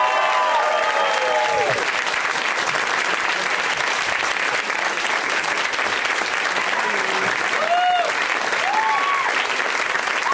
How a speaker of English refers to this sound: Please welcome them. Summon them with your applause and love.